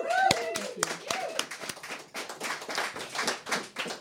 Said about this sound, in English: Please give her a round of applause.